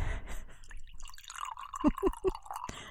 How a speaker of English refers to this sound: Cheers to a new year. Yeah, there you go. Pour a glass of wine.